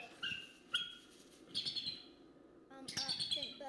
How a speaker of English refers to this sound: It's actually a raptor. What kind of raptors do we have around here? Raptors by owls. It sounds like an owl. That was actually a bald eagle. Can you believe it? All those screeches.